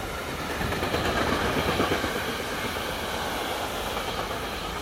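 A train rolls steadily along the rails through the Elbe valley in Saxon Switzerland, a dense, continuous rumble with a faint rhythmic clatter and hiss, fairly loud throughout, with no voices.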